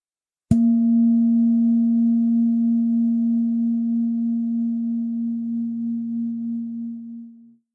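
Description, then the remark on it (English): A meditation gong is struck once in the meditation hall of a Tibetan Buddhist monastery above the rooftops of Kathmandu. It rings out in a deep, steady hum with a gentle wavering pulse, fading slowly over about seven seconds. No voices are heard. “Kaum sitze ich, ertönt erneut ein Gong.”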